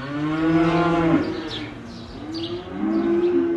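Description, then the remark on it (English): Hundreds of bulls, steers and heifers in pens in a huge barn at a cattle auction in Kingsville, central Missouri, moo loudly and nearly continuously, their long bellowing calls overlapping one another, with fainter higher calls and shuffling in the background. No one speaks. “At the Kingsville Cattle Auction in central Missouri, hundreds of bulls, steers, and heifers jostle in pens in a huge barn, waiting to be herded onto the sale floor.”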